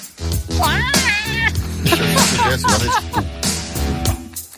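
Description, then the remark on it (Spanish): A cat lets out loud, drawn-out yowls with sharp wavering pitch, like an animal that has just been stepped on, several cries in quick succession over a low, steady background rumble. “Un gato pisado.”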